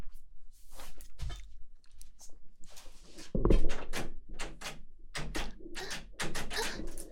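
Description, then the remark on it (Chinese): A door handle is jerked and rattled repeatedly against a door that will not open, producing irregular clunks and clatters for several seconds, with no voices. “怎么回事？门怎么打不开啊？不会啊，我没有锁起来啊。难道有人在外面反锁了？”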